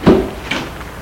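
door being closed

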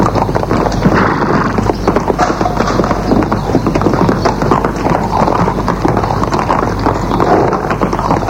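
horse hooves clip-clopping

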